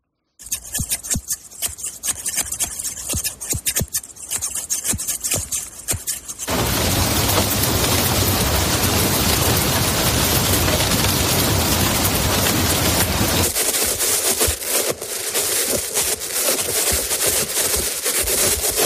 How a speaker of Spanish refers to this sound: Son unas tijeras de peluquero, la lluvia y los golpes de una mano con unos guantes de metal. Fíjate, muchas personas quizá tú sienten relajación al escuchar este tipo de sonidos.